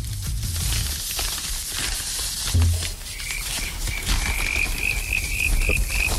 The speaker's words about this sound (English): Right, that was veggie sausages and frogs. That's what that was supposed to be. It's good you explain that, because no one would have got it, would they? It's quite hard to make the sound of a veggie sausage.